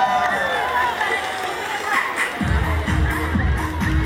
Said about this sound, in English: Let's give her a big round of applause, ladies and gentlemen.